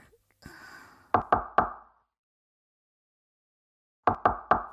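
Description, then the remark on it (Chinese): Two bursts of three firm knocks on a door early in the morning, separated by a few seconds of silence, with a brief soft rustle just before the first set. “啊，谁呀？一大早上就敲门。”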